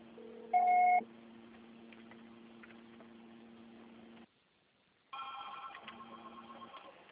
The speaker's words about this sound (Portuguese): Grave seu recado. O pessoal será tarifado após o sinal.